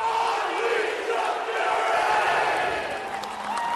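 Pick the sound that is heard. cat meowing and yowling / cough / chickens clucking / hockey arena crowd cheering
hockey arena crowd cheering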